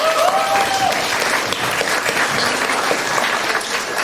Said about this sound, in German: Von daher einen großen Applaus an die Gruppe Webseitenaktualisierung.